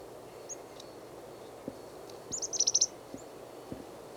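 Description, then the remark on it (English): Chickadee calls from a small flock of chickadees foraging in pine branches about 2 meters up: a quick run of about six thin, high notes in the middle, with a few faint scattered chips before and after over a low steady background rumble. No one speaks. “There's a third chickadee just beyond it, 3 meters.”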